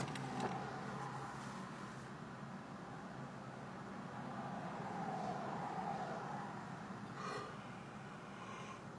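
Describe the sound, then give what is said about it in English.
A car window motor hums steadily as the glass lowers, the whirring continuous over a low engine rumble and faint road noise while the car sits in traffic, with no one speaking. “this window a bit. Get a breeze going.”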